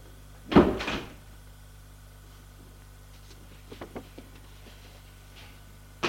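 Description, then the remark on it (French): An elevator door rolls and thuds open with a loud mechanical clunk near the start as people step out on the top floor, then a few softer knocks and rattles follow over a steady low hum, ending with another brief thump. “Sortent de l'ascenseur.”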